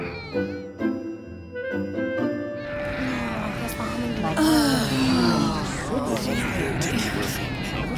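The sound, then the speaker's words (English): A baby cries loudly on an airplane, with repeated high, wavering wails that rise and fall over the steady hum of the plane's engines, starting after a few seconds of quieter tonal sound. “It doesn't sound like that little baby's enjoying it either.”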